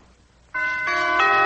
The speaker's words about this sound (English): I can just about imagine what happened when Clifton arrived at your house and rang the doorbell